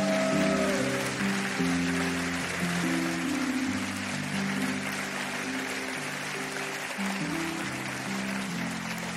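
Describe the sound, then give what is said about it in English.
A large church audience stands and claps steadily to honor its pastors and overseers on stage, in a dense, continuous wash of applause, with sustained keyboard or organ chords playing underneath throughout. “And would you give a hand clap for”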